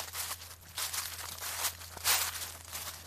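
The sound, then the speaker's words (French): Dry, crunchy rustling comes in a series of uneven bursts of footsteps on dead leaves or dry wood, fairly loud, over a faint steady low hum. “Vous vouliez écouter des bruits de pas sur des feuilles mortes ou sur du bois sec”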